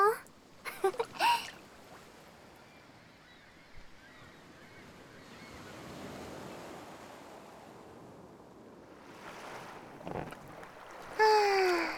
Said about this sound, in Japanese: はぁ、浮き輪でのんびり、気持ちいい。はぁ、波穏やかだね。ぷかぷか。